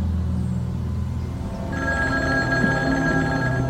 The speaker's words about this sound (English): The Kennedys have two outdoor phones installed on the property. One of the phones rings.